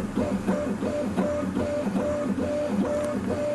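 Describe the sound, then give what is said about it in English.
A 3D printer runs steadily, its stepper motors whining in short repeated tones over a constant mechanical hum, moderately loud with no voices. “I thought, why not just transfer the data from the X-ray to the 3D printer and copy those?”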